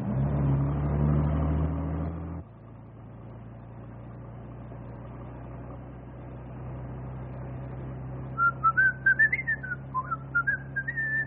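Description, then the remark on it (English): A man whistles a short, wandering tune near the end, clear over a steady low engine rumble that follows a louder burst of noise at the start. “you have to whistle?”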